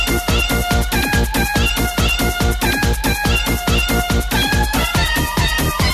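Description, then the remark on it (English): A loud, fast electronic dance track with a pounding steady beat, its melody built from cat meows repeated in a bouncy rhythm throughout. No one speaks. “It's …, obviously, but with cats, right? Genius. Go, cat, go. Take it away, kittens.”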